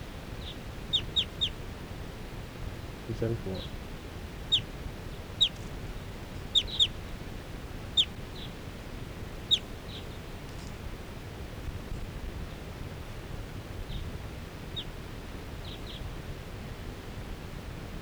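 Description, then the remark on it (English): A flock of four wild birds, about to take off, gives short, sharp, high-pitched calls in scattered bursts and quick pairs over a steady background hiss, with a brief spoken voice early on. “And the wild birds, four wild birds in the flock are calling.”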